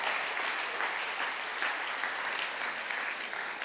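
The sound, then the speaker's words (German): Steady audience applause for the stage team, a dense wash of many hands clapping at an even level for the full few seconds, with no voices standing out. “Hey, mal Applaus für das Stage-Team”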